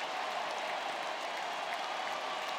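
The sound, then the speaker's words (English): Steady, dense applause from a large crowd at Minute Maid Park baseball stadium, with teammates on the front step applauding Jose Altuve's 1,000th career hit, a base hit to left field; a continuous wash of clapping at an even loudness with no voices standing out. “All of his teammates on the front step applauding their second baseman.”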